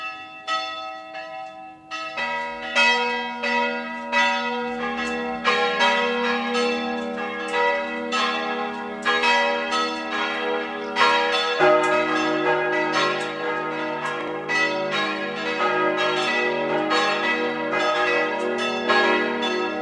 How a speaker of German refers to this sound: Es ist 12 Uhr. Sie hören die Glocken der katholischen Stadtpfarrkirche von Neusiedl am See im Burgenland.